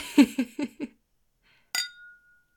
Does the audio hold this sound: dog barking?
no